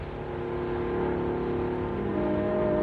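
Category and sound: vehicle, airplane engine running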